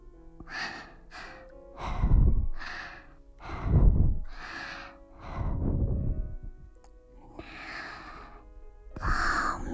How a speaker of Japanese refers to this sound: お耳、神々の罰を与えちゃいます。いきなりだと痛いから、最初に吐息を。